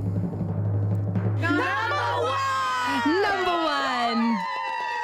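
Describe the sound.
After a low steady hum, a crowd suddenly erupts into loud cheering, with many high whooping and shouting voices rising and falling over a busy background that may include clapping.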